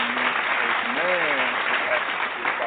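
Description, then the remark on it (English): An audience at an evening church service claps in praise to the Lord, a dense, sustained wash of applause, with a voice briefly calling out over the clapping partway through. “If you're having a good time in the Lord this evening, please give him a hand clap of praise.”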